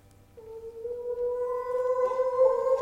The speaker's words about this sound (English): Even in here, the sound of the wolves. Listen to them. The children of the night. What music they make.